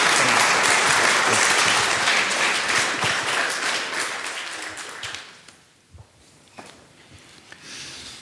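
A crowd claps together in sustained, full applause that gradually thins and fades out after about five seconds, leaving a few scattered claps and shuffling noises in a quieter room.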